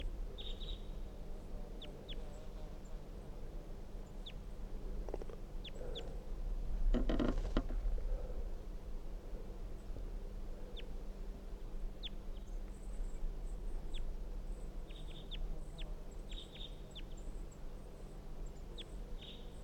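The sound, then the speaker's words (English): Soft, brief calls of a wild bird, recorded from the top of a dead pine tree, come and go in scattered clusters over a steady low outdoor rumble, with one short louder rustling burst partway through and no voices. “They're recording the soft calls of the wild bird from the top of a dead pine tree.”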